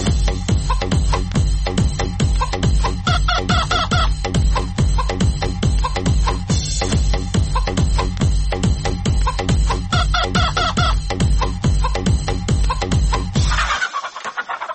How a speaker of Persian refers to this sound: شنونده عزیز برنامه مربای مرچ، ای هفته سر به مرغانچی یکی از خروس ها زدیم